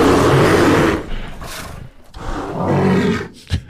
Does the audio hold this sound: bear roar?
yes